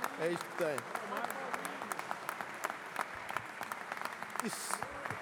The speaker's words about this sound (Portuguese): Aí têm as vossas palmas ao Partido Socialista. Batem palmas e eles dão-vos isto. É isto que têm.